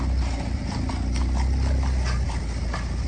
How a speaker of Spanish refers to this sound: ¿Qué tal sobre el caballo? Oye, como suenan los cascos,